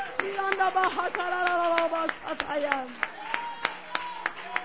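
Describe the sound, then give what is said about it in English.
An audience claps hands to the Lord in praise, in sharp, fairly steady beats, settling into an even rhythm toward the end, while voices call out and sustain tones over the clapping. “Our hands should clap our hands to the Lord.”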